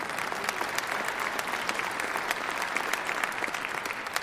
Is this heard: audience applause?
yes